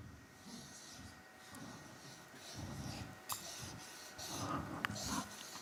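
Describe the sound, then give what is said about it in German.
A pen scratches and squeaks across a surface in short, irregular strokes as someone draws a diagram, soft, with a faint steady hum in the background and no one speaking. “Jetzt geht der Stift.”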